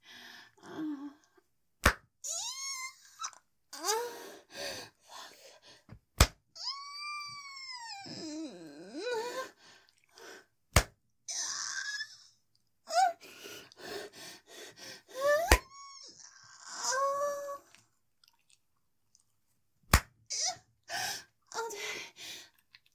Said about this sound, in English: 5 hard slaps on my wet pussy for Daddy.